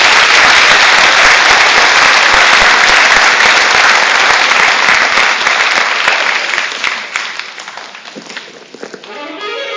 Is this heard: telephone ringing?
no